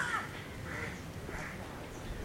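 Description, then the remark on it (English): A crow caws three times in a harsh, evenly spaced series over a steady low rumble of outdoor background noise. “Just note that the crow is crowing.”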